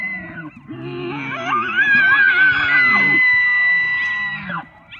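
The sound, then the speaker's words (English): An elk bugles in one long, rising call, a high whistling squeal that climbs and holds over a low grunting rumble before breaking off, followed by softer wavering tones; a recording from the National Park Service. “Now, that's actually a recording of an elk from the National Park Service. They only call out like that in the fall.”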